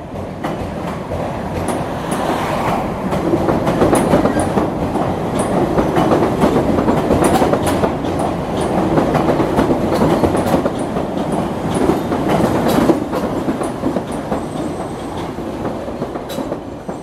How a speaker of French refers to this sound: Moi, ce qui m'a le plus marqué quand je suis arrivé, c'est le métro suspendu qui fait une loupe autour du centre-ville et qui est aussi du début du siècle et qui fait pas mal de sons, de bruit, ça vibre.